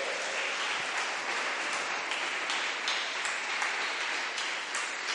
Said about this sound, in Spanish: Señor, esta es tu casa. Un aplauso al Señor.